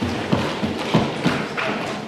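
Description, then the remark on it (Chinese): An audience stamps their feet together on a count of one, two, three, in a steady rhythm: about five dull, heavy, booming thuds spaced evenly across two seconds, with no talking. “如果现在我们大家一起跺脚，我数1、2、3，一起跺脚，我们来听一下好吗？”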